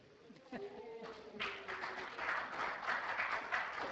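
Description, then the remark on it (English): An audience at a City of Bisbee meeting breaks into steady applause after a motion passes 5-1, following a moment of faint voices; the clapping builds quickly and continues as a dense, moderately loud patter. “Thought there was no clapping from earlier.”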